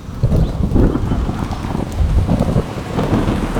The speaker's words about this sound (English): There was no bird song, and even the insects were still. The only sound was the roar of the wind and the lashing of the rain.